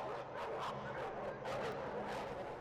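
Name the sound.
dogs barking and whimpering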